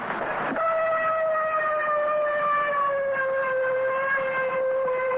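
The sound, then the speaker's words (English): A ship's siren sounds one long, steady blast with a slightly falling pitch, signalling the end of general quarters off the Normandy invasion beaches on D plus one, with the moon out, loud and sustained for several seconds over faint background noise, with no voices. “There's the siren signal. The GQ general quarters is over.”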